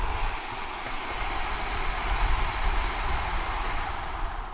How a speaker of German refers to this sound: Also, tief einatmen in Bauch und Lunge. Alles ist voll. Jetzt nochmal ein extra Zug durch die Nase. Und dann durch den Mund ganz lange aus.